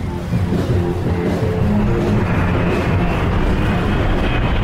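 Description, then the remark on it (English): A loud, steady jet plane roar fills the whole clip, a dense rumbling whoosh with a faint high whine riding on top, constant with no voices. “Rock concerts and jet planes create very high volumes of noise.”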